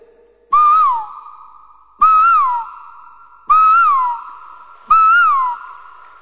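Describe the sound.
A voice imitates an Asian koel's call: four loud, close, whistled notes, each rising then sliding down, repeated at a steady pace with brief gaps between them.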